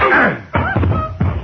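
A sneeze: a loud, breathy vocal burst followed by two more abrupt, sharp bursts with a tonal, nasal edge, spread over a second and a half with no speech.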